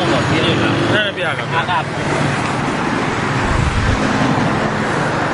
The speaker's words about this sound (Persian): آزادی پارک، پارک آزادی. واو چقدر ماشین موتور میاد میره، پارک آزادی.